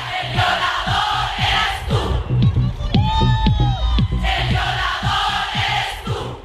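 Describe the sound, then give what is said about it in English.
A huge crowd of women in Chile chants a protest song in unison, loud and continuous, over a steady rhythmic pounding beat, with a few clearer sung voices rising briefly in the middle. “In Chile, huge crowds of women performed the protest song Un violador en tu camino, a rapist in your path.”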